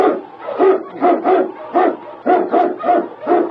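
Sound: sled dog barking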